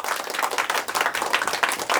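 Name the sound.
audience applause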